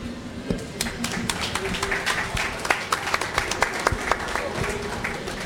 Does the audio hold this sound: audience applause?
yes